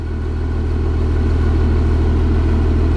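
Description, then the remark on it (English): The engine of a Stryker armored combat vehicle, a nearly 20-ton vehicle on eight wheels, roars steadily and loudly along the border by the Rio Grande: a deep rumbling drone with a throbbing low-end pulse that holds constant throughout, with no voices. “The roar of the armored combat vehicle filling what's typically a quiet scene along the border here.”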